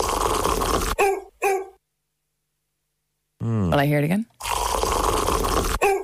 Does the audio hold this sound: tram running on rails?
no